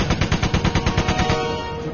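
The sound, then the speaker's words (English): A rapid burst of automatic gunfire from a man spraying ammo around in a full circle by a waterfall, about a dozen sharp evenly spaced shots, loud and alone, ending abruptly and leaving a fading ringing tail. “The waterfall was making it impossible to hear any movements, so the man followed his instincts and sprayed half of the remaining ammo around them in a full circle.”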